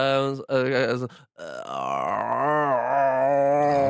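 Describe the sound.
A voice attempts overtone throat singing by making a resonance chamber in the throat, a strained, buzzy low drone with a whistling overtone that shifts in pitch above it, broken by a brief grunt and a short pause before a longer sustained tone.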